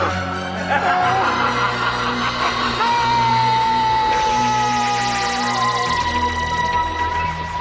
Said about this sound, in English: It does end up with the Doctor's face shouting, but he's shouting in the mud, so it's a bit different.